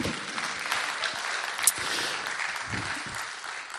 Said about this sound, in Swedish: Tack lovsångsteamet. Ge dem en applåd.